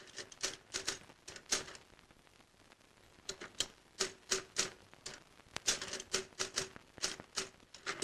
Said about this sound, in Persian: یه آدمی که معلوم نیست داره اسامی عوامل فیلم رو تایپ میکنه و اون چیزی که روی پرده سینماست بخشی از ماشین تحریر و اسمهای تایپ شده است.